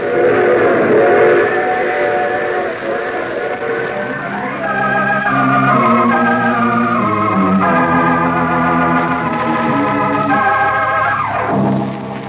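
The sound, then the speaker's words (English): A steam train whistle blows in long, wavering harmonic blasts over the steady rumble and clatter of a train rolling by, loud throughout with no talking. “You see, I take this same train every week at this time.”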